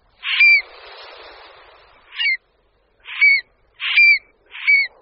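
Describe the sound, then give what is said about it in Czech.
A stone-curlew gives five sharp, shrill calls in a loose irregular series, each a short, loud, ringing burst with a rising whistle. A brief rushing noise follows the first call. No one speaks. “Rytíci, žijící na jihu Evropy, jsou stálí, severněji hnízdící ptáci tažní.”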